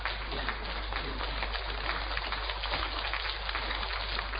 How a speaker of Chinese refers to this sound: 那么我们今天请娄先生带给我们的演讲的题目就是讲梁思成的生平、事业、情操，我们鼓掌欢迎。